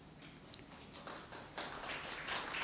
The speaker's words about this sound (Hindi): ताली बजाई लेकिन आप सबने जोर से नहीं बजाई है।